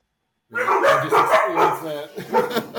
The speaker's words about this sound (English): Sorry, the dogs went crazy.